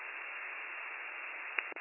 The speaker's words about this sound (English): Seventy-four-six-zero radio is all static.